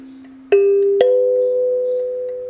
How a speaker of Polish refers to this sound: Z tego co ja się orientuję, to jest afrykański instrument.